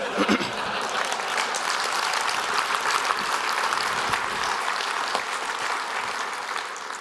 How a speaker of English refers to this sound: Now, I know that you thought about clapping, but you put your hands down. Fine. It's Vegas. I respect that. If I'm going to get applause, we're going to do it the right way.